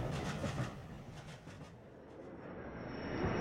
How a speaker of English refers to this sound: We're at the station. Oh no, look! We must get off the train.